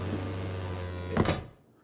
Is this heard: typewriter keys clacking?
no